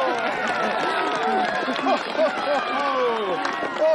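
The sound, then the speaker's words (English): A crowd cheers as a man dressed as Santa walks through it. Many voices overlap in excited shouts and calls that rise and fall in pitch, holding a steady, fairly loud level for the whole stretch. “dressed as Santa walks through the cheering crowd.”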